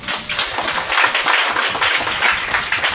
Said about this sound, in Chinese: 嗱，我都话你哋聪明才智好叻噶啦，俾掌声自己。